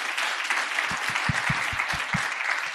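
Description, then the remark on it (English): An audience at an MUT university event claps for Prof. Sibiya in a dense, even wash of applause that holds at full strength throughout, with a few sharper individual claps standing out in the low end. “And let's give Prof. Sibiya a warm round of an applause.”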